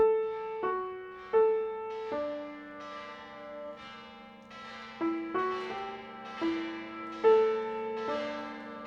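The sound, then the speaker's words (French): Bells ring out in a slow, irregular sequence of about nine or ten strikes, each clang blooming with rich overtones and lingering hum before the next, with no voices present. “Une cloche, une prostituée. Elle hurle ce qu'on veut.”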